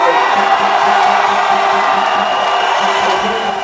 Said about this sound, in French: La foule a exulté dès l'annonce de la victoire du général qui a mis une pause dans sa carrière militaire.